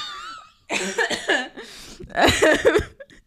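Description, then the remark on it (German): Two loud fits of coughing, each a burst of several harsh, rasping coughs, separated by a short pause, with a faint whistling tone at the start. “Da würde ich ja husten, wenn ihr das Song hört.”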